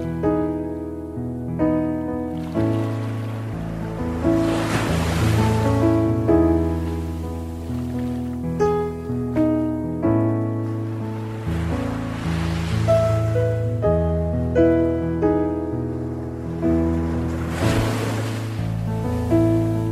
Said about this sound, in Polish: Chociaż polecił im, by wyprzedzili Go w drodze na drugi brzeg, to byli zaniepokojeni z powodu ciemności, wiatru i mocnych fal.